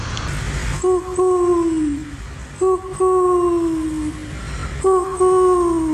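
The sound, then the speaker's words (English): A pigeon in a small park surrounded by houses coos three times at a steady pace, each call a soft, drawn-out note that slides slightly downward, over low rumbling background noise. “yeah, it's a small area because there's houses all around it, and that there are pigeons here, and I think this pigeon wants to say hello.”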